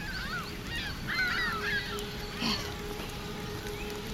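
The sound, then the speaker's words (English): A flock of birds calling together in the sky over an island after a storm has passed, overlapping goose-like honks rising and falling continuously over a steady low rumble, moderately loud, with no talking. “The sky. It's full of birds.”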